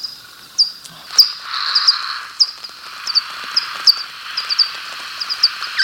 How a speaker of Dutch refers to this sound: Dit is een sociaal geluid van een gewone dwergvleermuis.